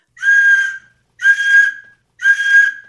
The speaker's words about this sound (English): Why don't you give him the whistle, Judge? Hurry him up.